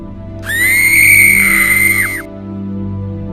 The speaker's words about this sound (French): Les parents entendirent alors un hurlement terrible.